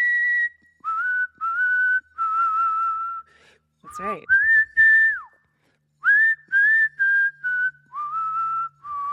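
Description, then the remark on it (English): Someone whistles a short melody, clear, with phrases of sustained and gliding notes separated by brief pauses; a voice briefly speaks midway through. “That's really good whistling.”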